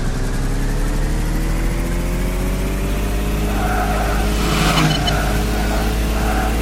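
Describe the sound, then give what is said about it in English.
A video game car engine revs steadily as the player holds the up arrow, its droning pitch slowly climbing as it accelerates, loud and continuous, with a few short electronic beeps near the end that signal scoring as cars pass. “Start the car, hold the up arrow.”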